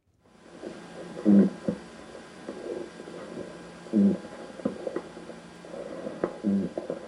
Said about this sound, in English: That's a lobster? That's a lobster. How? Well, they're actually using the hard parts of their body to create that sound.